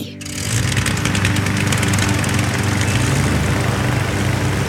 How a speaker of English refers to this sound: You see that big fan over there? Yeah. We're going to point it at the opening of the balloon and turn it on. Ready? Ready. Then at the count of three, we'll turn on the fan.